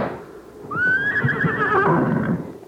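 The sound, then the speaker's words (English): A horse lets out one long, loud whinny, its high quavering cry rising and then trembling for over a second over a low rumble of background noise. “Get off that horse.”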